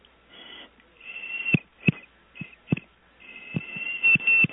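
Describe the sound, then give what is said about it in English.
A steady, high-pitched whistle mimics a phone-line tone, held in several long stretches with brief breaks, punctuated by a handful of soft low thumps. No one speaks. “So I'm going to give one more whistle.”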